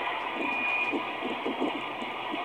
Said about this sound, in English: All that you're hearing, that's all the explosion. But that's pretty much all the audio at the end. It's just the debris and everything settling down after the explosion stuff.